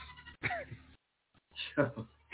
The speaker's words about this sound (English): do I hear a sheep or something? Yeah, no, those are goats. We got goats.